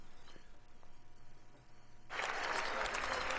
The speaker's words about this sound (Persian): چنان که شما صدای کف زدن ها را مشنوین، این لحظه است که رئیس جمهور ترامپ وارد مجلس شده و با افرادی که در دو طرف مسیر راهش است مصافحه و احوال پرسی میکنه، امرو از اونا دست میته.